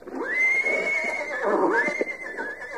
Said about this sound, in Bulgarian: Но ето кон, към него право припуска като ураган.